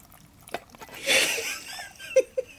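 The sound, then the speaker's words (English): Shaken Absolut Citron vodka is poured near the microphone in a short, soft gurgling splash lasting about half a second, followed by a couple of quiet knocks or clinks, with no talking. “I'm just going to pour this in. I put it near the mic.”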